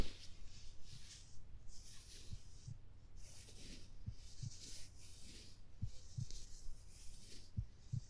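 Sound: heartbeat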